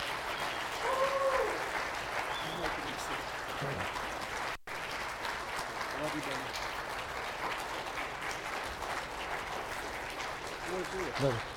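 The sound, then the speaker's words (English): Sustained audience applause, a dense steady wash of clapping lasting the whole stretch, with scattered voices and cheers rising over it. “Y'all give them a round of applause, please.”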